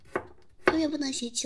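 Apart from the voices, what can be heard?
knife chopping vegetables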